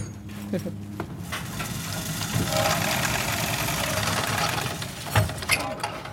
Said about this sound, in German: Alles ist bereit und die Helferin lässt den Apparat mit einer Kurbel ins Wasser. Und schon ist verschwunden. Wie lange muss ich jetzt da kurbeln? Ja, 30 Meter.